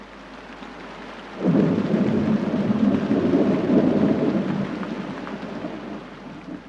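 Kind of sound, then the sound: nature, rain falling with thunder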